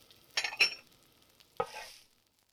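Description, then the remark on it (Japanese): A pancake, just flipped with a spatula and fingers, sizzles in a frying pan in a few short bursts, the last one trailing off into a fading hiss. No one speaks. “これで、しばらく待って。いい匂いがしてきたね。両面が焼けたら、あとはお皿に移して。”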